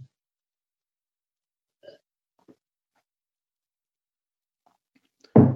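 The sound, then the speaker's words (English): Someone takes a sip of water: a couple of faint, brief gulping and swallowing sounds spaced apart in near silence, followed by a sudden louder burst at the very end. “So I really want to stress, and apologies for the brief moment to take a sip of water,”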